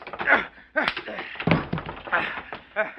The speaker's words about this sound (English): Then your fist catches him full on the jaw. He staggers back, crashes into some empty crates.